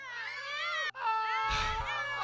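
children screaming

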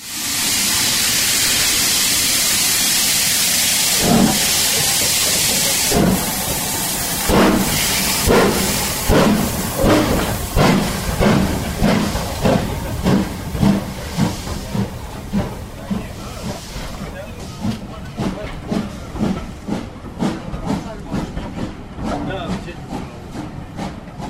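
steam locomotive hissing steam

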